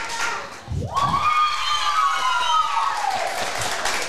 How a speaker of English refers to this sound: Where's his round of applause now?